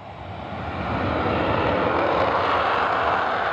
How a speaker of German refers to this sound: Hey, und mittendrin in diesem angeblichen Paradies eine mega fette US-amerikanische Militärbasis, also eine Flugbasis. Den ganzen Tag donnern die Jets durch den Himmel.